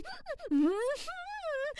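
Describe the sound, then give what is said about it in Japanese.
Breath escapes through the nose in voiced, humming moans, two drawn-out rising and falling tones, each followed by a short breathy puff. “鼻息が漏れる。”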